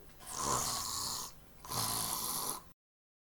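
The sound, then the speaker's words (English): Two loud, raspy snores, each a long breathy rasp lasting over a second, separated by a short pause, with no talking. “Finally, he got to a big clearing, and he heard something snoring.”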